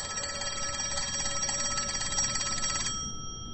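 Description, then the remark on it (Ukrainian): An old-fashioned telephone bell rings steadily for about three seconds, a bright metallic trill that stops abruptly, leaving a faint hum over a low background rumble: Khvylovy calling Mykola Kulish to the telephone on 13 May. “Несподівано Куліша покликав до телефону Хвильовий.”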